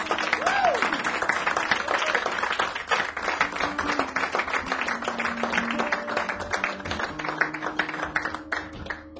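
Sustained audience applause at a tour show for a friend of the performers, a dense crackle of many hands clapping steadily for several seconds, with faint tonal hums and a brief rising whistle-like tone early on underneath.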